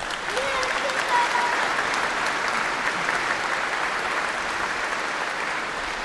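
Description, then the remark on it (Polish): Steady, dense applause from an audience celebrating a fundraising account reaching 5 million fills the whole stretch, a continuous wash of many hands clapping at an even, fairly loud level with no pauses. “Wielkie brawa!”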